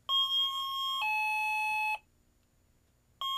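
An infrared motion sensor set to chime mode, triggered as someone approaches it from a little way off, sounds a clear two-tone ding-dong, high note then lower note, each held about a second, then silence before the chime begins again at the end.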